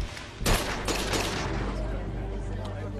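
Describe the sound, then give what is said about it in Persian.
A loud burst of gunfire cracks out, followed by a few more scattered shots over a low, rumbling background that keeps going after the firing fades. “تیراندازی شده.”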